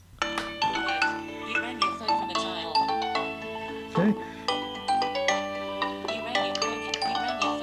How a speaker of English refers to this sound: Okay, you rang your phone from the tile.